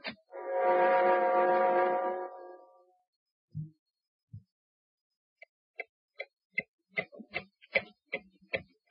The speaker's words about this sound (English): Time has a way of meeting out justice, hasn't it? Listen, as the clock ticks on for John Littlefield.